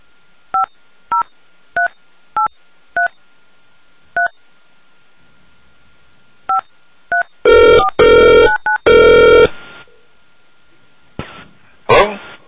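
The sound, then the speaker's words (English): A series of short, evenly spaced keypad beeps gives way to several loud, buzzy bursts of a telephone line ringing, followed by a brief rough noise near the end. “We're having a bit of a problem with the phone, so just be patient with us.”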